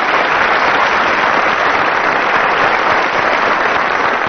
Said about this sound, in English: I suppose you'd better applaud the teams then.